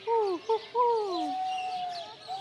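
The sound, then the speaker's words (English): A bird keeper by the owls imitates bird calls: a few quick, sliding hoots followed by one long drawn-out note, with no talking. “He sure does know his bird calls.”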